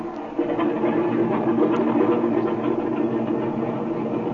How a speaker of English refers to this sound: Oh, by the way, I want to run up the engine again before we take off. Yeah, go ahead. Give her a twist, run her up.